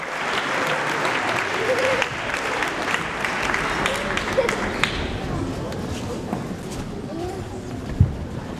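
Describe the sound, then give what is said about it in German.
An audience applauds steadily for the whole stretch, a dense, even wash of many hands clapping at a fairly constant loudness, with crowd voices mixed into the noise, welcoming contestant number 10 onto the big stage at a children's music festival. “Hier kommen Sie, hier kommt unsere Startnummer 10 zum großen Applaus.”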